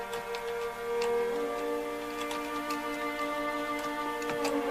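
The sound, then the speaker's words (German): Irregular, crisp computer keyboard key clicks tapping over steady background music with sustained tones; the clicks are quick and scattered, some in small bursts, and no one speaks. “Ich find's auch toll, wie man jede verdammte Taste von seiner Tastatur hören kann.”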